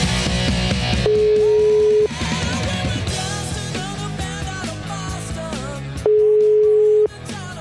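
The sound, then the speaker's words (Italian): An outgoing phone line rings back twice as a call is placed to a phone number, each steady one-second tone spaced about five seconds apart, loud, with music playing underneath throughout. “Adesso ho un numero di telefono”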